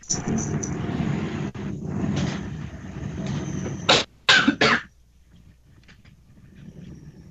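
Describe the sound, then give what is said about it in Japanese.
A train passes with a loud, steady rumbling roar for several seconds, then a few sharp bursts of noise break through before everything falls quiet. “い、今電車が通りました。”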